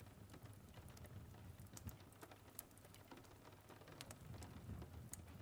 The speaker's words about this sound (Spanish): mientras observas cómo las pequeñas gotas golpean la ventana. Y cómo mientras tanto comienzas a conectar con la lluvia.